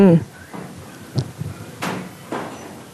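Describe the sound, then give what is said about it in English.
Timber creaks and ticks as a working wool shed in Australia warms in the sun, a handful of irregular knocks and groans spaced through the quiet, with a brief voice at the very start. “As the sun starts to warm up the shed, I'm just listening to the creaks,”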